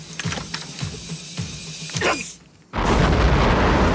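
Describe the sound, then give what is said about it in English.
A sequence of sharp knocking thuds builds up, then a sudden loud explosion of about 4 pounds of C4 rips a hole in a road, erupting into a sustained, roaring wash of noise as debris rains down. “An explosion rips a hole in the road and debris rains down on Bert.”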